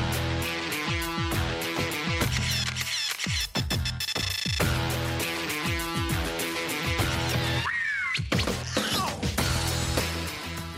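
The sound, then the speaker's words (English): Loud, busy electronic theme music of a TV reality show with a pounding beat, layered with shrill, wailing sounds that swoop up and down like a screeching cat, most sharply near the end. “I just want to say, why do they have a theme song that sounds like a cat is getting murdered?”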